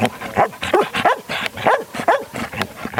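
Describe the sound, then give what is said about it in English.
A search-and-rescue dog that sniffed out earthquake survivors in Mexico barks over and over in quick, uneven bursts, each bark sharp and mid-pitched with a slight whine at the edges, carrying loudly on its own without any talking. “She wore goggles and little rubber booties, and she sniffed out survivors.”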